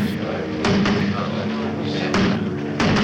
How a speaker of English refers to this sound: To get people's attentions, instead of tweeting, he bangs on a drum. Walter Trump. Step forward, friends. Step forward.